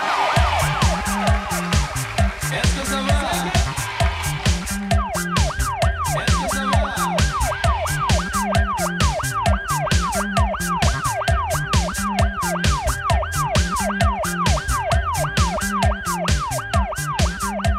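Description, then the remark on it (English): A rapid, yelping siren rises and falls again and again within a loud music track with a steady beat and thumping bass, playing on a car radio, starting after a brief intro and continuing to the end. “The siren is on the radio in your car.”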